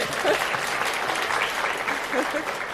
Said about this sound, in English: Give a round of applause, everyone.